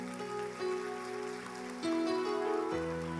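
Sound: audience applause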